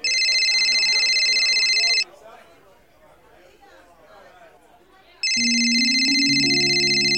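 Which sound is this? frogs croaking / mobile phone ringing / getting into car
mobile phone ringing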